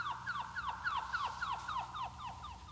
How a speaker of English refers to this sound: Our little canary is transformed into some screeching bird of the marshes. And how much variation there is in the trills themselves that was unnoticeable at first.